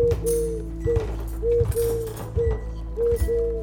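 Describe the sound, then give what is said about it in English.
A pigeon coos in repeated low, throaty phrases that come in a steady rhythm over a constant low rumble with no voices. “Would the pigeon have just stayed out there indefinitely?”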